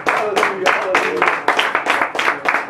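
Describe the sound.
An audience claps together in a dense, sustained burst of applause, given as a hand clap of praise in worship at a church service, with loud voices calling out over the clapping throughout.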